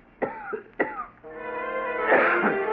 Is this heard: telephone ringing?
no